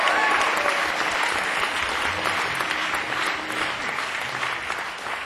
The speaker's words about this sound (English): Excuse me, before I do that, a full body round of applause for yourselves for being here this evening. Thank you so much for coming out and joining us.